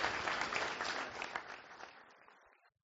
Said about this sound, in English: Round of applause, people. Come on, they're on the wire.